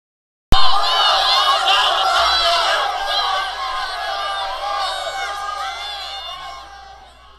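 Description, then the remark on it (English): Fighting townspeople in Boston in 1770, at the Boston Massacre, shout and jeer in a dense, overlapping din that starts abruptly and stays loud, many voices clamoring at once before easing slightly toward the end. “Eleanor and Olivia wake up to shouts and jeers from outside their room.”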